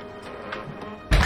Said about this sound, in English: She shuts the door and locks it.